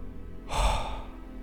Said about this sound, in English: Double speed. Power breathing. Belly, chest out.